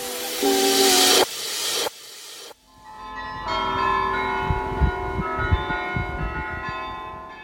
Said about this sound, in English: These are the bells of the Dom Tower in Utrecht in the Netherlands, ringing … after his death in 2018